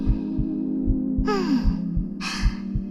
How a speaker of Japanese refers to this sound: どんな風に特殊かって言うと、中に潜っていくと、私の心音が君の全身に直接響くようになってんの。結構すごいでしょ？